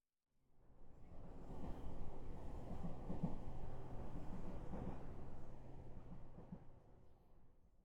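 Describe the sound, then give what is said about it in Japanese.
A steady, low rumbling roar from inside a moving train with two people riding, fading in and holding at an even level throughout with a faint underlying hum and no voices. “まだ電車の中だよ。憧れの先輩と二人で電車に乗って揺られてる。”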